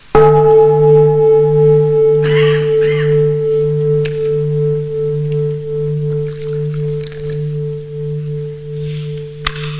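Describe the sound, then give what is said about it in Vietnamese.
A single meditation bell is struck, giving a bright metallic onset and then a long, steady resonant hum with a clear tone that lingers and slowly fades without any talking. “Rồi kinh chuông thì thở, rồi thầy uống một chút trà.”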